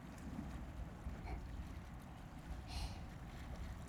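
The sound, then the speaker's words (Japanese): Steady low rumble of boat engines and churning water as many ships pass one after another through the narrow Kanmon Strait between Mojiko Port and Shimonoseki, with wind buffeting underneath and a brief hissing swell near the end; no voices. “こんなにたくさんの船が門司港と下関、歩いて渡れるほどに狭い海峡をひっきりなしに行き来していく。”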